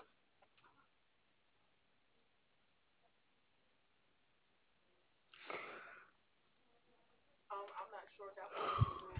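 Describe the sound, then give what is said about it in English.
A customer yawns during a phone call with customer service, heard over a muffled phone line: a breathy exhale followed by a longer, drawn-out yawn with a faint voiced groan, both fairly soft against quiet background hiss. “I just yawn. That's all.”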